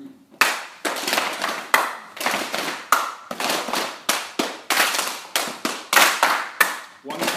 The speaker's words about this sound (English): It's called Venga Venga. So the first rule is I'm going to clap once and you're going to slap your legs twice.